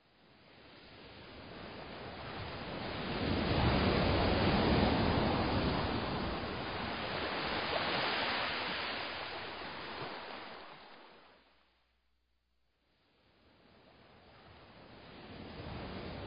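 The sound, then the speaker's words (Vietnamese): Ocean surf rushes onto the shore in a broad, hissing wash that swells and recedes, falls nearly silent for a moment, then builds again with the next wave. No voices are heard. “Trở về biển, nhìn dấu chân đã đi qua, sóng xô bờ đã bao lần xóa thật kỹ.”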